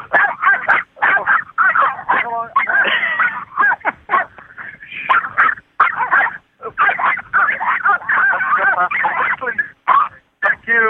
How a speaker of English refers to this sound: Come now they're barking at somebody.